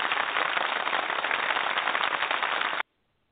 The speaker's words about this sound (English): I'm sorry. My applause was overstepping your talking, so I'm going to do that again.